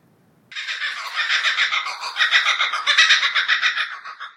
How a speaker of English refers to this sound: All you're aware of, right at this very moment, is that a bird is laughing.